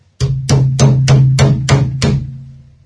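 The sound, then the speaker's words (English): Seven sharp, evenly spaced knocks on a glass table in quick succession, each a loud bright rap over a steady low resonant hum, with no voices. “It's a glass table. I can't break that, can I?”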